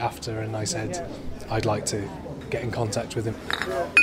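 Beer glasses clink together in a toast, a few bright knocks near the end, over the busy chatter of a lively crowd.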